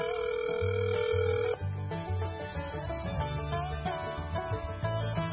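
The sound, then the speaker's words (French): A steady telephone dial tone holds for over a second, then gives way to shifting ringing tones on the line as the caller tries to reach someone at the airport by phone. It is fairly loud and continuous, with no one speaking. “Ben, on va essayer de voir si on peut l'avoir au téléphone, ça serait super.”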